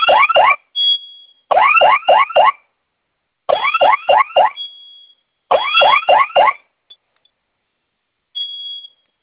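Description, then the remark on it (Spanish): A loud electronic security alarm, set off as a test by pressing the panel's two fire buttons together for 5 seconds, blares in repeated bursts of rapid, warbling rising tones, each burst ending in a sustained high beep, with short silent gaps between them and no talking. “Va a oprimir los dos botones de la flamita al mismo tiempo por 5 segundos. Se va a activar la alarma.”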